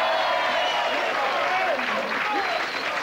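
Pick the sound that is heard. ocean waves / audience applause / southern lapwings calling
audience applause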